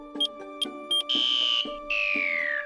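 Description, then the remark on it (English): An electronic banana alarm sounds with a cluster of short, quick beeps followed by two long, loud, piercing tones, the second sliding slightly downward, with no talking. “Can someone turn off that banana alarm?”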